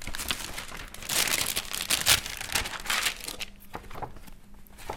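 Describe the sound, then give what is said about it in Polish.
Paper photographs rustle and crinkle as an album is handled: fairly loud, irregular bursts of dry crackling that ease off toward the end, with no voices. “To jest wyższość tej fotografii, która była kiedyś na papierze utrwalana i którą można wkleić, oglądać, można poszeleścić, można poczytać.”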